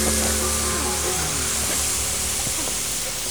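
water spraying

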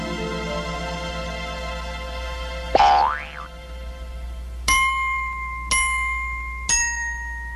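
doorbell being rung

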